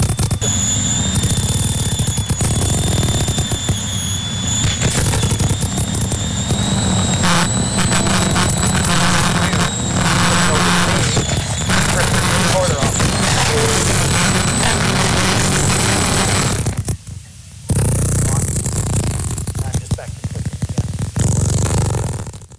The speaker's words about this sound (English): All right, so Dr. Davis goes out, puts a recorder on a sperm whale, and it's working. You'll hear the clicks. And your clicks. Sperm whale clicks.